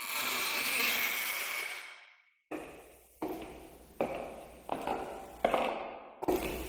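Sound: door opening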